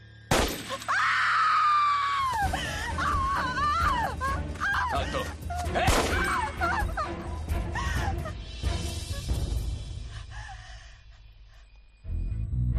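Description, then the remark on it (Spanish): A woman screams in horror: long, loud, wavering shrieks that rise and fall for several seconds, opening with a sharp crashing burst and fading near the end. “ella la oímos gritar de horror.”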